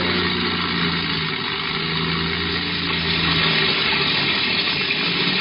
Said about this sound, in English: From the sound of the engines, I'd say they were having a little trouble.